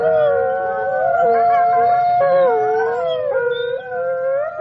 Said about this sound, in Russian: бешеные собаки в писательском поселке Переделкино. Воют и бегают стаями. По улице Гоголя, по улице Серафимовича, по улице Павленко. Кажется, они тут единственные жители.